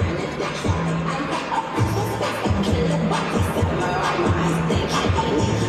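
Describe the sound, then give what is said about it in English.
A huge New Year's Eve crowd in Times Square, New York City, cheers and roars while watching the annual ball drop countdown to 2024. The sound is a dense, unbroken, loud wall of noise with scattered shouts and low droning tones running underneath. “When the clock ticks, crowds are gathering, watching the annual ball drop fireworks countdown.”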